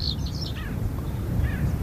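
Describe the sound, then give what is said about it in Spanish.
Scattered steppe bird calls chirp in short, high bursts over a steady, low rumble of wind, intermittent across the open soundscape; dry-field land birds, not waterbirds, in the Doñana marsh in winter, in February. “Solamente el viento y aves acuáticas, aves esteparias, perdón.”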